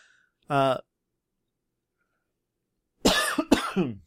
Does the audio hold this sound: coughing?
yes